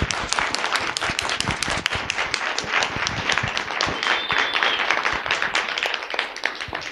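Steady audience applause for the people who put the event together fills the whole stretch, a dense wash of many hands clapping at a fairly loud, even level without any talking over it.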